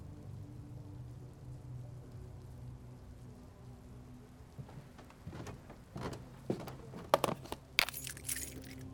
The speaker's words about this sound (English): It is a cold, rainy evening.